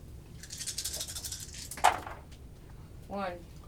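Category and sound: household object, dice being rolled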